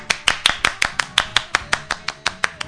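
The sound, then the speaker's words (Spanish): A single person claps in a steady, even rhythm, about five sharp, bright claps per second, carrying on for under three seconds with no voices. “Otro aplauso, por favor.”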